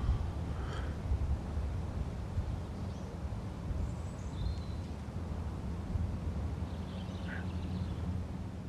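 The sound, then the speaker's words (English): A steady outdoor breeze rumbles low and constant, while a few faint bird calls and quacking sounds pop up sporadically, with no one speaking. “You can hear the breeze and the wind and the birds and animals around you, and it's so, so peaceful.”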